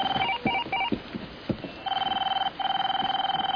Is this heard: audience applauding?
no